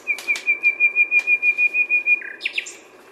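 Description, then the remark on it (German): A one-year-old male nightingale sings a phrase of rapid, evenly pulsed notes on one steady high pitch, ending in a few quick higher chirps, clear and loud against faint background hiss. “Das ist wieder der Einjährige.”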